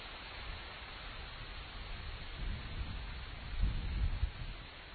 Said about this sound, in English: Hey, the rain's picking up, though. Listen to that. See if we can get some of this audio. Yeah, I imagine you know what rain sounds like. So it's pretty much the same everywhere you go. But oh, it's getting windy now, too. Listen to the wind.